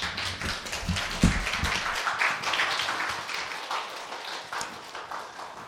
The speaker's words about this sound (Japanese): では歓迎の拍手を持ってお迎えしましょう。